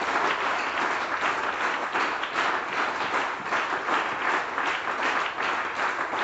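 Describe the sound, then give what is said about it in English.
An audience claps their hands together for the ministers after a service, in steady, dense applause that stays loud and even throughout, with many overlapping claps forming a continuous roar and no voices standing out. “Even the ministers, let's give them a hand clap.”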